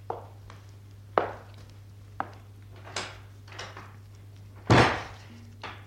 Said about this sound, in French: Je vais entrebâiller la porte. Il y a juste assez de place pour moi.